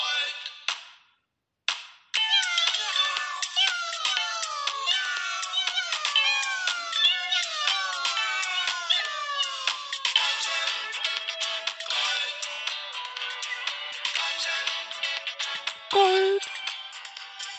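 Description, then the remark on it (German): A dense chorus of cats meowing, many overlapping downward-gliding cries piling up rapidly after a brief opening sound, continuing loud and busy throughout with no talking. “Katzen.”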